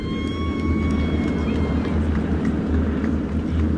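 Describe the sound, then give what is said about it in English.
A formation of 600-horsepower Texan trainer aircraft, two flights of four, roars overhead at the World War II Memorial, a steady, heavy low-pitched engine drone with a faint high whine that slowly fades, loud throughout the few seconds. “Here come the Texans, the 600 horsepower, two flights of four. Listen to the sound that they make as they go over.”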